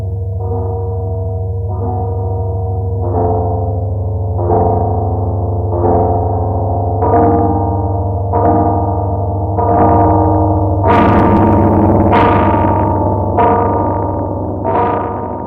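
Film score recordings processed by editor and sound designer Walter Murch through an ARP synthesizer to distort them: a steady low hum under evenly spaced, repeated chords, about a dozen, that turn brighter and harsher toward the end. No one speaks.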